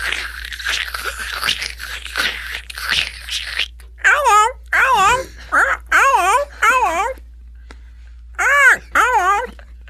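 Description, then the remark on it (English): A person imitates a bird call, producing loud warbling tones in a string of short, wavering bursts, preceded by a few seconds of breathy, crackly noises. “I will do the most hilarious, accurate bird impression you've ever fucking seen.”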